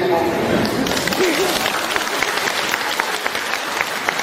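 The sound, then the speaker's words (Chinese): A live audience breaks into steady applause on its own, without being prompted. Dense overlapping claps are sustained for several seconds at a fairly loud, even level, with a few voices murmuring briefly underneath at the start. “啊，这次比较自觉，我没叫你们就鼓掌了。”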